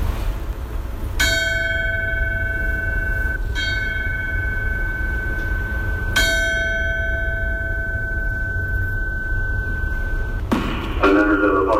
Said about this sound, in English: And now, our brother, Chief Paul Hewitt, has completed his task. His duties well done. And the bell rings three times in memory of and in tribute to his life and service.